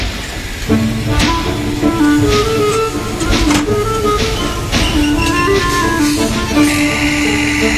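train departing

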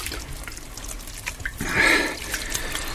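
water trickling

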